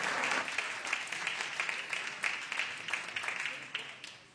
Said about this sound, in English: And please, senators, give a round of applause for our colleagues and our business leaders of the South Bay.